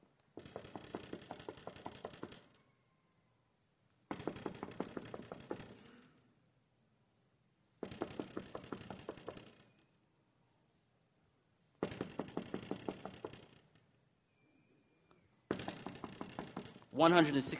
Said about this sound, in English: Can you imagine knocking on a door for 167 years?